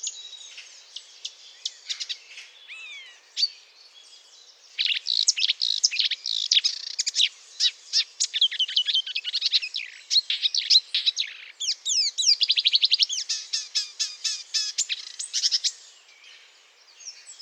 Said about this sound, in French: Donc quand on a une rousserolle verderolle, on a non seulement la rousserolle verderolle, mais on a en plus l'information sur tout le cortège d'espèces qui est présent dans le milieu où elle habite. Et ça, c'est vraiment spectaculaire.